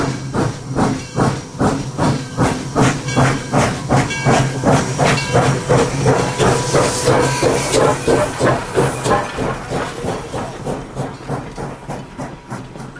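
A steam locomotive in a station hisses and chuffs in a steady, rapid rhythm, loud, with broad bursts of steam noise that slowly fade toward the end. No voices are heard.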